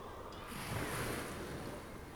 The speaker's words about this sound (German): Sie spüren den leichten, warmen Wind, die heranrollenden Wellen, die mit einem kleinen Zischlaut am Ufer auslaufen, wirken beruhigend.